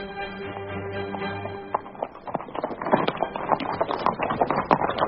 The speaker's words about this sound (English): It's a large body of horse approaching, along the Cambridge Road, about 2 miles ahead.